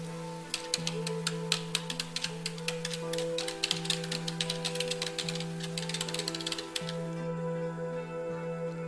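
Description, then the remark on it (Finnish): Rapid, irregular, random tapping on the keys of a computer keyboard, a dense patter of taps that stops near the end, over a steady low background hum. “Sulje silmäsi ja naputtele sattumanvaraisesti näppäimistöäsi minuutin ajan.”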